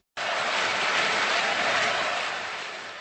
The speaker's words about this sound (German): Gut eine Minute vor dem Ende des großen Finales erhoben sich die 6000 Zuschauer an der ausverkauften Karlsbader KV-Arena von ihren Plätzen und feierten mit Standing Ovations ihre Mannschaft.